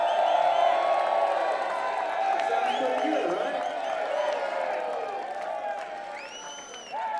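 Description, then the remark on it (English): A large live-show audience on the last night of a tour cheers and whoops loudly and continuously for the sound crew, with scattered shouts and high yells rising above a dense, sustained roar of voices. “So everybody has to like cheer louder than you have ever for our sound guy.”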